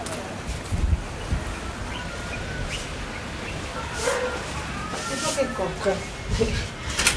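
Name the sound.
wind blowing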